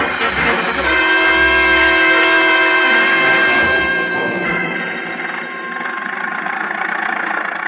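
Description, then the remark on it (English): An old Model T Ford engine roars steadily with a buzzing, harmonic drone and low thumps early on, easing slightly in loudness partway through but running continuously as the car drives through the back streets of Cairo. No one speaks. “I was slammed into an old Model T Ford, and off we went roaring through the back streets of Cairo.”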